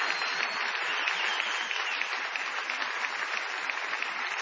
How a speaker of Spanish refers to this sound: Venos aquí en este multiteatro de Carlitos Rottenberg con mucha gente. Vamos a aprovechar el envión de este aplauso inicial para ovacionar